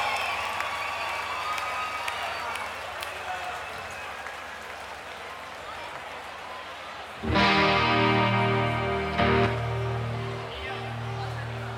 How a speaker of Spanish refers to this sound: Un gran aplauso